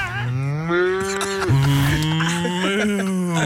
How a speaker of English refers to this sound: can I hear the cow again, please? The cow is amazing.